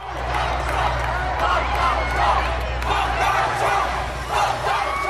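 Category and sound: crowd, protest crowd chanting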